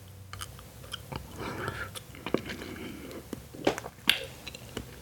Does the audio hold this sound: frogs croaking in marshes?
no